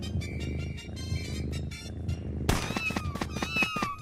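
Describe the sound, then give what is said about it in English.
In a video game, a kitten meows several times in quick succession, the high, rising-and-falling cries starting partway through and standing out clearly over a steady bed of background sound. “A nice princess asked you to take care of all her kittens.”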